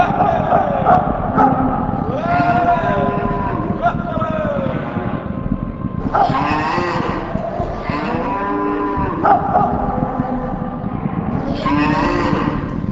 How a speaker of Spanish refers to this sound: El ruido que hacía la manada de bisontes y el polvo que levantaban hizo que Kinahuacán se acercara a ver lo que pasaba.